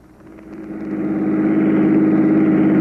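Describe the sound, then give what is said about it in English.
A car engine revs up steadily during a chase, its growl building in loudness and pitch over a few seconds as it accelerates hard, continuous with no voices. “Now, run his car into the curb, right?”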